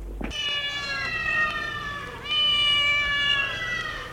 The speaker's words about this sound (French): Sous l'évier se trouve une caisse à chat et une assiette sale. Le chat, justement, le voilà.